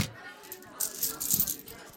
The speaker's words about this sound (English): Holy shit, that's a lot of coins. Yeah, was gonna go Dutch, but I'm okay with you offloading some of those.